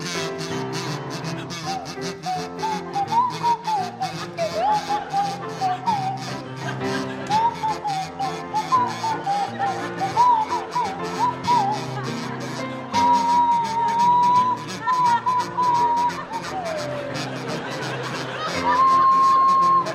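Tony Hawks on the kazoo and Tim Brooke-Taylor on the swanee whistle play a bouncy tune together for about twenty seconds, the kazoo buzzing and the whistle gliding between notes, with audience murmur and laughter underneath.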